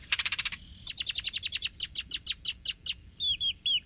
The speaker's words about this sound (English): Great-tailed grackles are known for their long, expressive tails and their wide vocabulary of odd sounds.